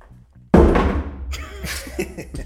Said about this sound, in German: mir fällt in die ersten 10 Sekunden mein Handy vom Schoß